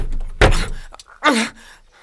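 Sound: rattling a locked door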